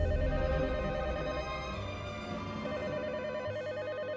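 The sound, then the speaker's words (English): A telephone rings at night with a steady, warbling electronic tone that carries on unbroken for several seconds, moderately loud, with no voices over it. “But that night, we're hanging out, and the phone rings.”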